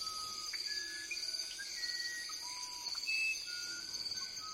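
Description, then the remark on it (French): A dawn chorus in which a wren and a grey potoo whistle brief clear notes here and there, with parrots, over a steady, shrill insect drone. The birds sound fairly soft. “au lever du jour, le beau chant de deux oiseaux, dit Bernie Krauss, le troglodyte Ararda et l'ibigeau gris, accompagnés par des perroquets”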